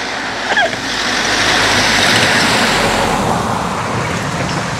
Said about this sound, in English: There's another car coming. All these cars. I don't think how much it's costing to get all these cars on the road.